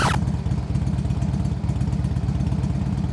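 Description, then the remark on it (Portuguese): A newly bought motorcycle, brought home by a man, idles with a steady, throbbing low rumble and rapid mechanical pulsing, continuous and fairly loud throughout, with a brief burst of noise right at the start. “Uma moto. Veja bem, uma moto.”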